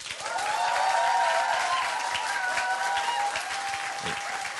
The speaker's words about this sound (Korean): 자, 그럼 박수 소리로 점수 매기겠습니다.